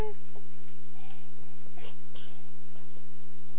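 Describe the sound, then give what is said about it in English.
A female dog gives a few short, sharp sneezes and snorts, spaced irregularly over a steady electrical hum, with no one talking. “Making funny noises. Sneezing.”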